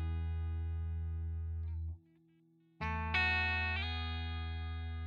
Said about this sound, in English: Take a normal guitar sound, for example. It can sound fuzzy.